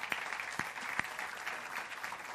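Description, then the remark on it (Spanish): Audience applause for those who attended an event the previous night, a dense steady patter of many hands clapping at once, with a few sharper individual claps standing out. No voices are heard over it. “Gracias, ustedes merecen, los que estuvieron esa noche, un aplauso muy fuerte.”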